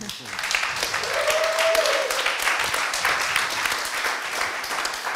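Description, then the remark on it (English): A crowd at THU applauds steadily in answer to being asked whether they enjoyed the technology talks. It is a dense wash of many hands clapping at once that holds fairly loud for several seconds, with a brief faint whistle or cheer near the start. “How many of you guys enjoyed this as an addition to THU to talk about technology? And by claps, not by hands.”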